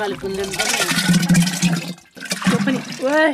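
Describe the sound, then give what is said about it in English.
Warm water pours steadily into a large, vase-shaped wooden barrel of fresh yogurt with a rushing, splashing sound, mixed with voices talking over it; the pour breaks briefly and then resumes. “Amma says that we're going to combine all this yogurt with warm water in the teko.”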